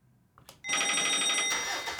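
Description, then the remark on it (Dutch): An outgoing phone call ringing tone, calling a man out on the road in a truck, starts abruptly after a few soft clicks, a loud, bright, buzzy ring held steadily for over a second, alone without any talking. “ik denk dat het tijd is dat we gaan bellen”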